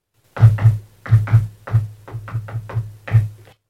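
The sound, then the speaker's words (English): Around ten knocks tapped out on a hard surface in a syncopated, song-like rhythm, fairly loud with a hollow thud, starting with quick pairs and ending with a lighter run of taps. “I would argue that, I mean, if you just do a rhythm where it's like, oh, what's the name of this knock?”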